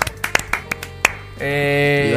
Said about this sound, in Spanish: ¡Un aplauso! ¡Oh! ¡Enhorabuena!